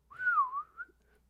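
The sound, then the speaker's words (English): A single sustained, very high-pitched mouth whistle like a dog whistle, lasting about a second, its pitch gliding slightly down and back up, heard alone with no talking. “You just got to whistle really, really high that you can't even hear it.”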